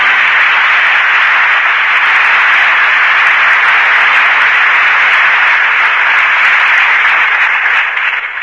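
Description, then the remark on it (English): Sustained, loud audience applause at the Lux Radio Theater, calling back performers Loretta Young and Orson Welles after their performances; a dense wash of many hands clapping steadily for the whole stretch with no voices and only a slight fade at the very end. “That applause invites the return of the two artists who gave such distinguished performances tonight.”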